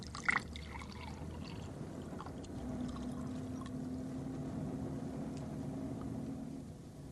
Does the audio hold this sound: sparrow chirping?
no